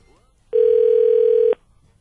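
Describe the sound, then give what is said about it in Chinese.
One steady telephone ringing tone, a mid-pitched electronic hum lasting about a second, sounds loud and alone between brief stretches of quiet, while a call is being placed and waiting to connect. “我觉得我们应该要打给那个最大功臣，让我们姜母鸭趴非常非常成 成功的 关键 人物， 关键人物，对不对？”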